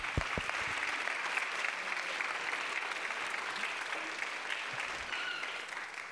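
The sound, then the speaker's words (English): Sustained audience applause, many hands clapping in a dense, steady wash of claps lasting several seconds without pause, fairly loud and even throughout. “Let's give them all a hand clap.”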